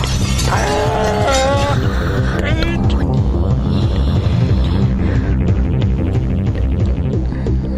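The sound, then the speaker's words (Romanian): Window glass shatters in a brief crashing burst, buried in a loud, dense, continuous rumble, with a wailing voice rising just before the break. “Se încaieră, beau. Geamul sparte.”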